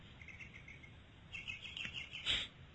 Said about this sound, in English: I'm grateful for the birds. I'm sure you can hear them. There's birds in the background.